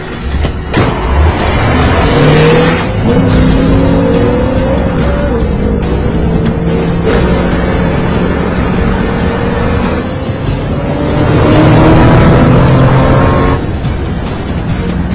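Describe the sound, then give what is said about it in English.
A car engine revs hard and accelerates, its pitch climbing in two loud surges, with road and tire noise filling the background and no one speaking. “Get in the car.”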